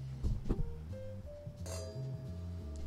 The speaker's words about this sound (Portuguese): Tem até um design diferente aqui, você consegue fazer o giro da taça. Mais confortável, né? Um brinde, então?